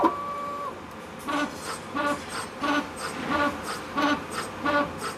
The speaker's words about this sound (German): Und der Drucker, mit dem wir arbeiten, ist standardmäßig eben mit 3 Kartuschen ausgestattet, was bedeutet, wir können bis zu 3 verschiedene Materialien in einem Konstrukt verdrucken, beziehungsweise wir können auch bis zu 3 verschiedene Zellarten